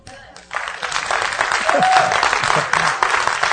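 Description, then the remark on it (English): Scattered applause from an audience starts abruptly and keeps a steady, modest clatter for a few seconds, with faint voices mixed in underneath. “Y'all just gave God a half. You didn't give him a very good applause.”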